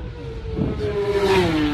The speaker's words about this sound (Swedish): Ja, det är omöjligt att se vilket nummer de har. Det går inte att se numret på motorcyklarna. Nej, det går för fort. Men det är storfräsarna.